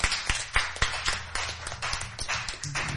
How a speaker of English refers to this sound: Give the Lord a cheer.